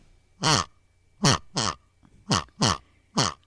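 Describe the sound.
A voice imitates a pig, giving six short, throaty grunts in quick, uneven succession, close and clear with no other talking.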